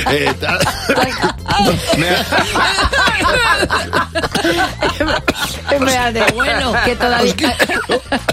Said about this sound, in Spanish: Por favor, ¿puedes toser hacia el otro lado donde no me llegue a mí? Porque bien siento la enfermedad que tienes.